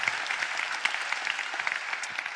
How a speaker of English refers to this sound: So one last round of applause for Amy and everyone else.